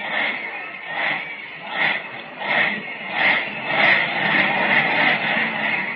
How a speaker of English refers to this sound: And just listen to that cheer.